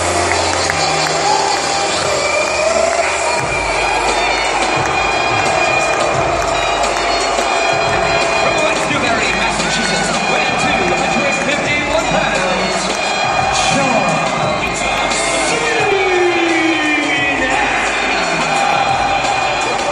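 crowd, wrestling arena crowd cheering

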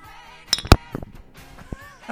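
household object, beer glasses clinking

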